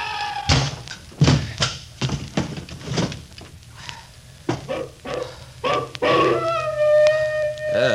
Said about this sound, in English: Here they come. Close the door and bar it.